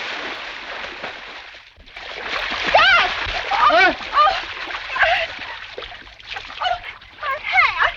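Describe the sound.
A brief pause, then a loud, churning splash of someone falling into water, turbulent sloshing that continues for several seconds while voices shout and cry out over it.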